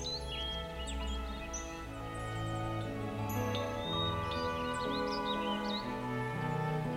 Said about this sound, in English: I lean back onto the velvety soft bed of grain and listen to the lovely sweet hums of birds singing.